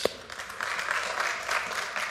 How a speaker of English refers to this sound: Yeah, you can clap for that.